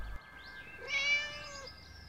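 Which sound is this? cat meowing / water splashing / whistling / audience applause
cat meowing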